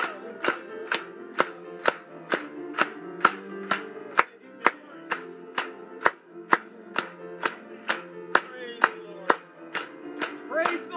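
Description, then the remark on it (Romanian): A crowd claps together in a steady, even beat, about two claps per second, applauding God during a Romanian-language hymn, over sustained music with singing in the background. The claps are crisp. “Să-i o aplaudăm lui în seara asta.”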